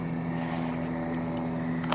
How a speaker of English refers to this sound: Oh, helicopters. I love the sound of helicopters in the middle of the night. It always makes me think there's obviously some dark force at work.